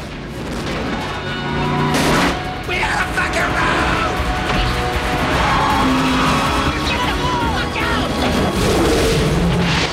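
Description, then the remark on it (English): A pursuing car's tires skid loudly as it is forced off the road by a shot barrel of ether, amid a dense, roaring din of engine noise and heavy booming impacts, sustained at high volume throughout, with a burst of crashing noise early on; the car explodes in a huge fireball. “He shoots the barrel, forcing the pursuing car off the road.”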